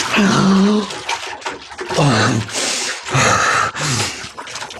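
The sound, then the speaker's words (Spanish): Water splashes and churns vigorously in loud bursts as the character Calimán shoots up through the water and breaks the surface, with a few short, breathy vocal sounds mixed into the turbulent sloshing. “Elevándose como flecha dentro del elemento líquido, Calimán surge a la superficie.”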